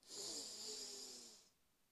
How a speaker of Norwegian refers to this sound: Da starter vi med å puste inn og ut gjennom munnen. Og så puster vi godt inn med nesa.